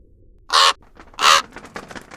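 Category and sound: bird, raven cawing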